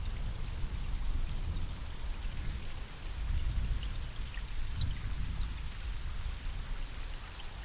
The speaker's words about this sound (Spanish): Miras al cielo y ves unas nubes enormes, oscuras, cargadas de agua. Los sonidos de truenos y relámpagos te ensordecen. Comienza a llover con intensidad.